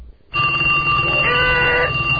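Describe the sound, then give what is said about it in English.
A cell phone ringtone starts after a brief moment of quiet and plays loudly and steadily for about two seconds, a bright electronic tone with a slight warble partway through. No one speaks. “My cell is ringing.”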